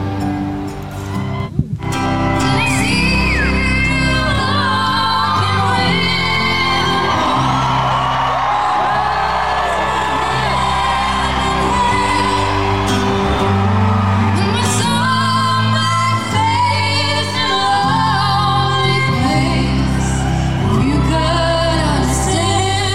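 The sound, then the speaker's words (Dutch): A loud live concert recording with dense band music, overlaid by continuous high-pitched crowd screaming and whooping from the audience throughout. “Het gegil, ja, je kunt geen goede opname maken als mensen zo aan het gillen zijn.”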